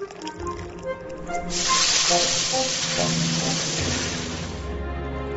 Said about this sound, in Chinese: 油锅煸炒姜葱，放入豆豉与豆瓣酱，把整锅料倒入牛骨汤，便是牛肉面的汤头。